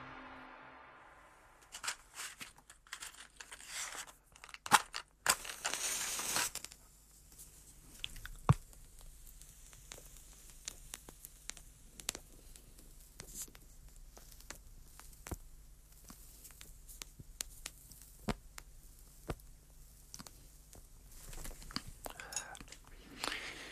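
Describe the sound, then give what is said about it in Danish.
A large cigar being lit: a few seconds of rushing, hissing flame, then a long stretch of quiet, irregular lip smacks and soft puffs as it is drawn on. No one speaks. “Ja, så har jeg fået ild i kanonslaget.”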